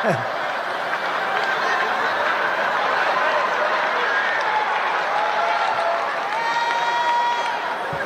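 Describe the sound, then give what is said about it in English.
A large crowd at a Donald Trump rally roars steadily for several seconds after someone shouts about Kamala Harris, a dense wash of cheering and shouting with a few higher whoops rising out of the din near the end. “And that got a great response from this crowd.”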